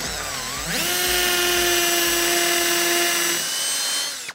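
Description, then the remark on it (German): A cordless impact driver fitted with a 5 mm bit spins up with a rising whine and holds a steady, high-pitched motor drone for about three seconds while boring a hole into hard wall tile for mounting a mirror, then winds down. “Wie geht das denn, ein Loch in Fliesen bohren? Und dann ungefähr 10 Sekunden und ich habe ein 1A-Loch gebohrt.”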